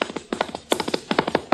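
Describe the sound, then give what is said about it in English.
Galloping horse hooves representing the Pony Express pound out a quick, uneven rhythm of sharp thuds in clustered groups, fairly loud with no voices over them. “It is the Pony Express speeding news across half a nation.”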